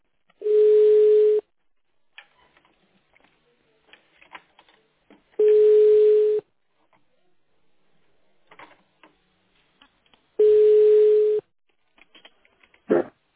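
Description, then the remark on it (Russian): A telephone busy signal: three long, steady mid-pitched tones, each about a second, separated by several seconds of near-silence with faint clicks and crackles. No one speaks. “The subscriber you have dialed is busy now. Please hold the line or call back later.”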